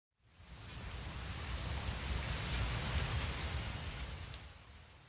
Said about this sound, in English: Thank goodness, it's raining.